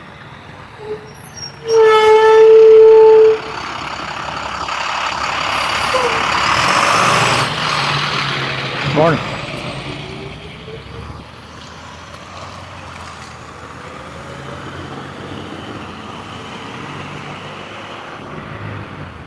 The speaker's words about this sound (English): Garbage truck.